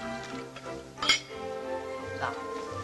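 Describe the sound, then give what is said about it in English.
A glass gives one bright, sharp clink as red wine is poured into it at a dining table, with a soft liquid trickle and a steady low hum of background music or murmuring around it. “Gigi gazes dreamily at her glass as Charles fills it again.”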